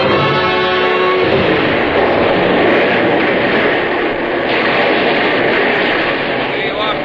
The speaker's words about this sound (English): And as we returned to the dugout with food, from all the guns behind us, the bombardment started.